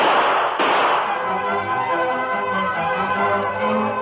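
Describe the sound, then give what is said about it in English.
Two sharp gunshots crack close together near the start, fired during a holdup by masked bandits and heard outside the sheriff's office across the street, followed by a sustained ringing, tonal wash that lingers to the end without any talking. “Across the street, Sheriff Fraser and Tonto entered the office from the cell room as the sound of gunfire was heard outside.”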